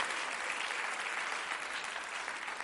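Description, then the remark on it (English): A church audience claps steadily and densely in praise of Jesus, a sustained wash of many hands applauding at an even loudness with no voices standing out. “Can we give Jesus one more hand clap of praise?”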